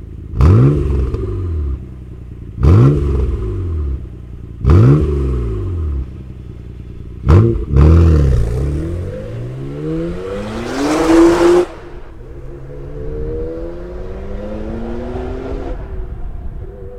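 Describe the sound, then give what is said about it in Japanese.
A Skyline GT-R DNR34 sports car engine with a racing titanium GD770R muffler revs hard four times in quick succession, each blip rising sharply with a raspy exhaust crackle, then settles into a rising, sustained roar that drops back to a rumbling idle. “スカイライン GTR、GF、DNR34、 マフラーはレーシングチタン GD770R。”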